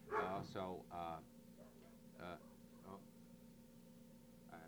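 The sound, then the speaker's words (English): A dog barks at a big, fat, brown or black cat in a quick cluster of three or four loud woofs, then lets out two more separate barks after short pauses, over a steady low background hum. “Albert's barking at some dog or something, so I'll sign off for a couple of minutes”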